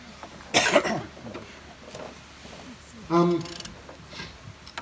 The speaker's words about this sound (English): I ate something and it's stuck, so I'm coughing. It's not COVID.